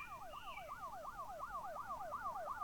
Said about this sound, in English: But those are police sirens. Those are police sirens, right?